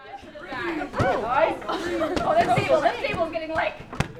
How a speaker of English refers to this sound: Like a public library pool party, a crowd of about 60 summer camp counselors in training work together to keep a dozen balloons bouncing through the air. The rules, they have to stay seated and they can't touch anyone around them.